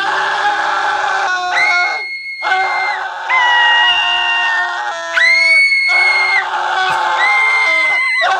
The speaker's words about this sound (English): Here's some yelling for no reason.